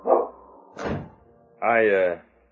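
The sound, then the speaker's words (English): A dog gives a couple of short barks as it is put outside, with a dull thump between them, then lets out a longer, drawn-out bark or yelp that ends abruptly. “I'm sorry, Father. I'll put him outside at once. Come on, King. Outside, boy.”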